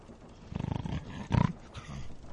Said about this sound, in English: Look at him all dead to the world. That bloody Italian snoring. I'll suffocate him in a minute.